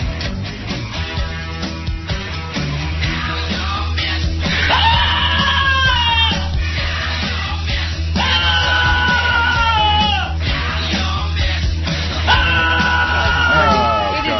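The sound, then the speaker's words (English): A dog named Cody lets out loud, drawn-out screaming howls that sound like comedian Sam Kinison, about three long bursts that rise and waver like a yelling man, over a steady low rumbling background. “They cannot understand the finer comedic qualities of Cody, the dog who screams like Sam Kinison.”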